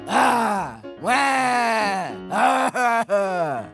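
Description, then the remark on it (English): A voice speaking as Pet Lamb, a sheep, imitates crying with loud, drawn-out wailing moans that slide downward in pitch, broken into several sobbing bursts with brief catches between them. “So instead, I will approximate the sound of crying.”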